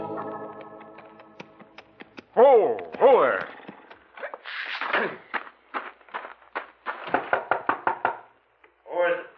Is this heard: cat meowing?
no